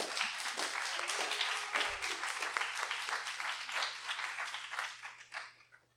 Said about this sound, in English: Thank you so much. Can we have another round of applause for Erin?